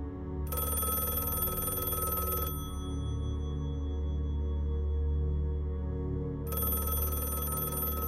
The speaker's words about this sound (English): As she's laying on the lawn, the phone rings.